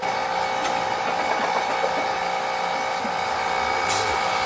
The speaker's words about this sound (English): Okay, so you hear the pulsator going. I'm over vacuum. Okay, so now I'm at the right vacuum. And this is a good pace. I know you can adjust the speed of the pulsator in this. This is a good pace.